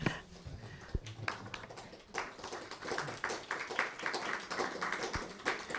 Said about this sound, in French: Oui, vous pouvez applaudir, je ne vous interdis pas. Allez-y.